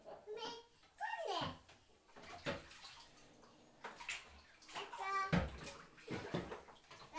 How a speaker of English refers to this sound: You're the one that showed him how to fill it up with water.